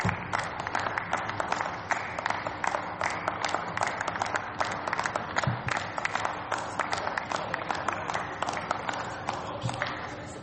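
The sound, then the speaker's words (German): Sustained, enthusiastic applause from a large group of members during a parliament session, dense overlapping claps continuing steadily for about ten seconds at a fairly loud, even level with no talking. “Wahrscheinlich, dass Sie so begeistert geklatscht haben.”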